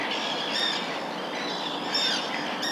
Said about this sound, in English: I always say that midges are really the plankton of the nature reserve. They are the food base for everything else here. That's what these birds are feeding on.